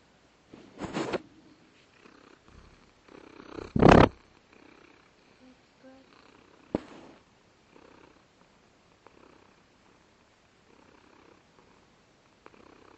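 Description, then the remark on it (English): A happy domestic cat named Whiskers purrs in a steady, low rumbling rhythm that continues throughout while two people pet it, broken by a few brief louder bursts of rustling or handling noise. “He says I'm getting all kinds of attention now. I'm a happy kitty.”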